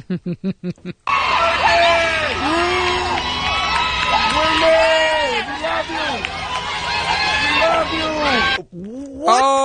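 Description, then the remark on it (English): A crowd of roughly 50 people outside a funeral home in a neighborhood yells and cheers loudly as a hearse pulls up. Many overlapping voices shout at once for several seconds, preceded by a brief moment of a single person talking and cut off abruptly near the end. “Can the thought process be when the hearse pulls up to start screaming”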